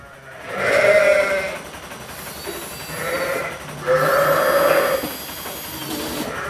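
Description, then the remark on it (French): Sheep bleat three times in close succession, loud, each call a wavering, drawn-out cry over a steady rustling farmyard background at a sheep milking machine, with no talking. “Il sort de la machine, va chercher ses outils, revient et avec une patience infinie, remet d'aplomb la petite boîte bleue qui a été abîmée par la brebis trop pressée.”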